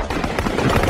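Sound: gunshots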